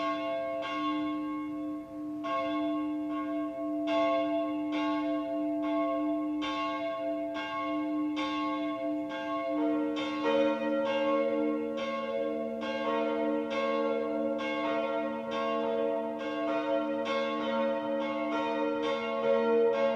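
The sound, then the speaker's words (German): Church bells of the Protestant Täufer-Johanneskirche in Sonthofen, Swabia, Germany, peal steadily for the 12 o'clock midday ringing, a continuous rhythmic swinging toll with rich ringing overtones; partway through, another lower bell joins in and the layered chime grows fuller. No voices. “Das Mittagsläuten kommt heute von der evangelischen Täufer-Johanneskirche im schwäbischen Sonthofen.”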